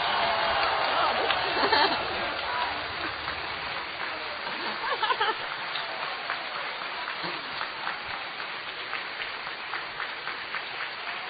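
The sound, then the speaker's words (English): An audience claps together to vote for the story on the right as the best, a steady, dense patter of many hands, fairly loud and continuous, with a few louder bursts and no talking over it. “All who feel the story on the right was the best. Правда. By clapping.”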